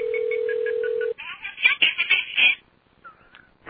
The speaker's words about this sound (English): Alright, apparently Not Theory ain't picking up his phone.